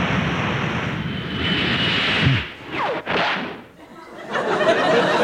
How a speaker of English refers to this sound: But the guard has waved his flag and the train's about to leave.